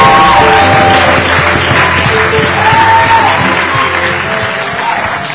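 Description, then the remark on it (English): An audience applauds and cheers people coming forward who have made a decision, in a loud, sustained wash of clapping, with scattered shouts and whoops rising above it throughout. “The reason why we're applauding is because we're looking back at the day when we made this decision.”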